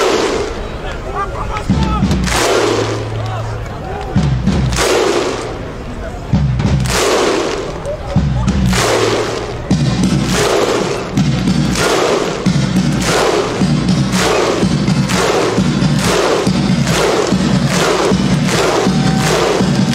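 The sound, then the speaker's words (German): A large stadium crowd at a German national team football match, prompted by DFB mascot Paule, performs the Icelandic Viking thunderclap chant: massive unison claps with a shouted grunt, evenly spaced and gradually quickening, echoing loudly through the venue. “DFB-Maskottchen Paule animiert derweil das Publikum erfolgreich zum isländischen U.”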